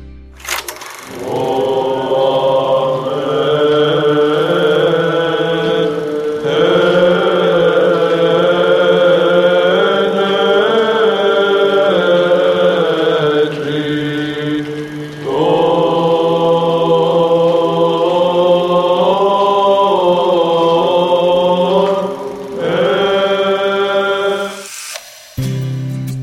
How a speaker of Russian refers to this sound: Удивительное пение, которое мы только что услышали, это голоса монахов из древней обители Дахиар, что на Афоне. На Святой Горе раннее утро, рассвет еще не наступил, а они уже в храме, возносят молитвы Богу.